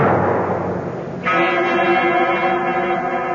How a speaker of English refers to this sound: I'm standing in front of the great door of Carrig Cleaner. And I know that everything is going to come clear at long last. I reach out and pull the bell. Even the bell is familiar, although I cannot quite place where I've heard it before.